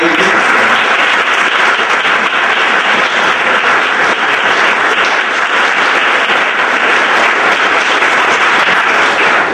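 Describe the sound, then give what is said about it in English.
Sustained applause from a large audience recognizing donors who endowed a chair in health policy at Jefferson, a dense, even wash of many hands clapping at steady volume for the full duration, with faint voices mixed in underneath. “I'd like to ask them to stand for a moment and accept a round of applause and recognition.”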